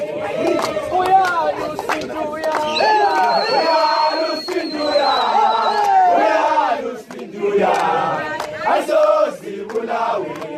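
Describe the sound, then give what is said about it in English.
The Matabeleland team and supporters sing and cheer at a tournament opening ceremony, many voices overlapping in loud, continuous chanting with bursts of shouting and a rising whistle-like tone, sustained throughout without a break. “They turned up to this opening ceremony, singing, dancing, clapping, laughing.”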